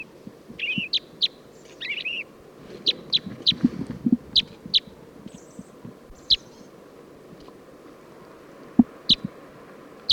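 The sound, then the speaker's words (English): Song of a male purple finch: a run of bright, high chirping notes in quick bursts, some clustered and warbled, others single sharp chips, over a low rumbling background with no talking. “Song of the purple finch.”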